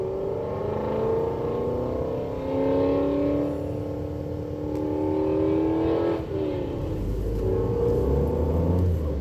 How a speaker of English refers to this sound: That car is crazy. It's like a mile away and it's still loud.